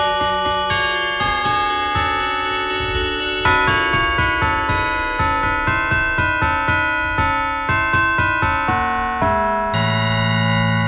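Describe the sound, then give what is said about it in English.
Church bells inside Charlotte Church ring out the melody of a pop tune, a steady run of loud, resonant struck notes with overlapping ringing tails, played alone with no voices. “This is what Matt played on the bells inside Charlotte Church earlier.”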